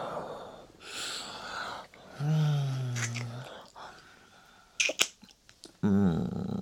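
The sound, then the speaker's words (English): Audible breathing: slow breathy exhales and inhales, with a low voiced hum partway through and a few soft clicks near the end, no words spoken. “Breathing across.”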